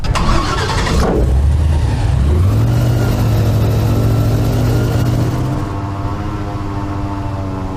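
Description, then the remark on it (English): A boat engine in the Everglades roars to life, revving up and then holding a loud, steady droning whir with its propeller churning, with no voices. “It's a cool boat, and yeah, it's good to get out.”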